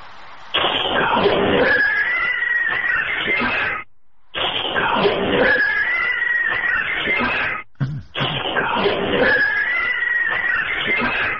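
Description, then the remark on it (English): Cats fighting, recorded inside an empty restaurant: harsh, loud yowling and screeching in three long bursts separated by short silences, with wavering high-pitched wails over a raspy, noisy texture. “This one sounds like cats getting into a fight.”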